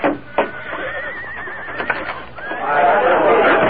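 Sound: horse neighing and whinnying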